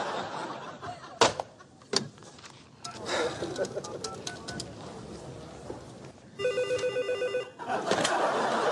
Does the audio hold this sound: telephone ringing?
yes